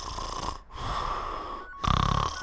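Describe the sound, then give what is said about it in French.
Spider-Man, sleeping deeply, snores heavily, with long raspy rattling breaths broken by two brief pauses, the last snore rougher and louder. No one speaks. “Danny se tourne vers Spider-Man, qui en réalité dort profondément.”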